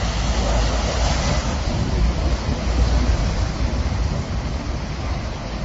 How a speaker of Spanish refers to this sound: Bueno, se escuchan así como de fondo las olas del mar, de un mar muy tranquilo en la playa del Orzán.